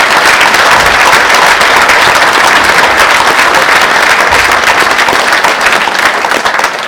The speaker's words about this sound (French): Vous pouvez l'applaudir parce qu'il le mérite.